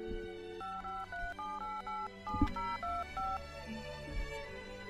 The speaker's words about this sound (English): I can't even dial a phone properly.